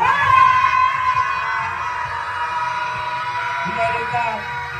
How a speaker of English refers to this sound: On the count of three, y'all. I want y'all to release. I want y'all to scream as loud as you can. I want you to release and I want you to let it go. Because we holding this stuff. On the count of three. One, two, three. Scream.